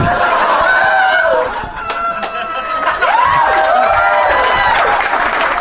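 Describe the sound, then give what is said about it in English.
A crowd applauds and cheers Ryan Stout as he stands. The clapping is loud, steady and dense, under rising and falling whoops and shouts from many voices, sustained for several seconds. “He's receiving adulation from the crowd. They are applauding him.”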